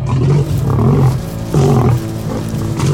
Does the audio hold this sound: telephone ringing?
no